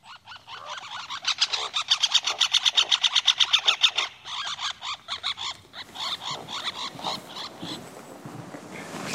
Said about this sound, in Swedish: Här finns flera inspelningar av trumning, drumming, men också andra läten, aggression call, interaction. En sorts interaktion mellan två fåglar på samma trästam. Men den var spännande, vi tar och lyssnar på den.